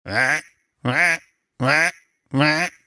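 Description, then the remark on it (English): Four loud, raspy duck quacks repeat at an even pace, each about a third of a second long with short silences between: a duck-sound wake-up alarm going off in the morning in a house. “And then the one that really, really gets me is the duck.”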